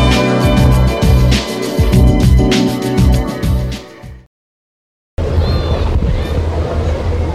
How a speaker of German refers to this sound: Es ist Samstag, 11 Uhr. Die Sonne scheint, ein warmer Wind weht über den Starnberger See. Ideales Badewetter.